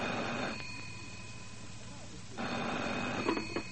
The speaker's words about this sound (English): About 3 a.m., the phone rang.